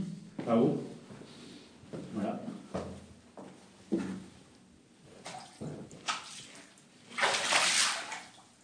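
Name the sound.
water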